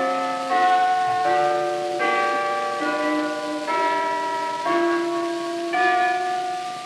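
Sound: ringing bells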